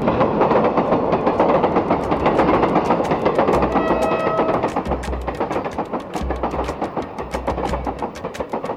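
A train rolls along the rails with a steady rumbling roar, punctuated by a fast, regular clickety-clack and heavier low thumps from the wheels passing over joints.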